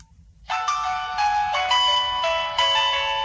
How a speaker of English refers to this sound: So I go to ringtones and I go to choose my ringtone because it's got the kind of usual... Play it. Go on. Let's hear it.